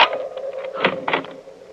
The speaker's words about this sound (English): Just a minute, I'll unlock the door.